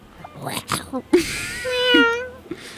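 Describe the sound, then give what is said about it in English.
A person imitates a cat's meow, one drawn-out, rising-then-falling mewing cry lasting about a second, fairly loud, with brief breathy vocal sounds before it. “Any more animal impressions before we go?”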